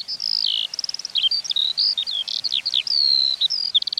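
A skylark sings in a hovering song flight at a great height, a rapid, unbroken stream of high, tumbling warbles, mixing quick trills with sharp chirps and buzzy notes, clear and fairly loud with no voices.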